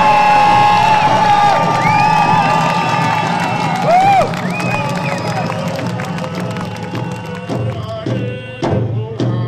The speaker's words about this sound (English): Some of the sounds from the May 8th Salmon Are Sacred rally held in Victoria.